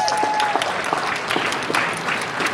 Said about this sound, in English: Can we get a round of applause for the team from the back?